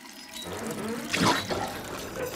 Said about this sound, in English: At Tolkien's house, Tolkien's dad stands in the kitchen, putting weed in jars. He turns on the faucet to wash his hands.